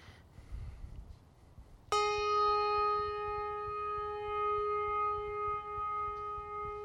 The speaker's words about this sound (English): I'll have you play a bell as we just, for each of these people that are mentioned today, just have a moment of silence.